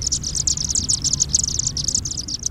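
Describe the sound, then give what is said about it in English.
A flock of chimney swifts chitters nonstop as hundreds of the small black birds descend into a chimney, their communal roost for the night: a dense stream of rapid, high-pitched twittering calls over a steady low rumble, with no pauses and no voices. “We've just witnessed a flock of chimney swifts enter their communal roost site for the night.”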